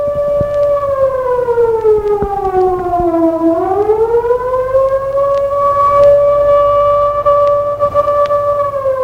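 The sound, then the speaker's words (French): A loud alarm siren from a jewelry store wails steadily for the whole stretch, its tone sliding down, then climbing back up and holding high. No one speaks. “Tout à coup, une sirène vient de retentir, qu'il fait sursauter et le paralyse. Elle vient d'une bijouterie.”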